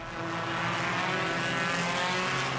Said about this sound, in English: It's incredibly boring just watching the cars go around and around the track, and I can hardly breathe because of all the smoke and fumes.